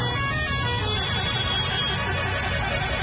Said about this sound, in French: Une foule de supporters aux couleurs vert, jaune, rouge du drapeau national a de nouveau déferlé dans les rues. Objectif, saluer les champions d'Afrique à leur manière. Parade de centaines de mototaxis. Concert de klaxons.